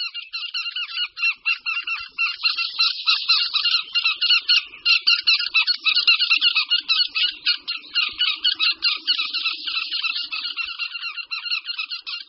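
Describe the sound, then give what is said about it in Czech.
Eurasian wryneck alarm and defensive calls at its nest as a domestic cat approaches: a continuous barrage of harsh, rasping, high-pitched squawks in rapid, stuttering bursts, loud and agitated throughout, with no speech. “Na nahrávce slyšíme poplašný a obranný pokřik krutihlavu u hnízda, ke kterému se přibližuje kočka domácí.”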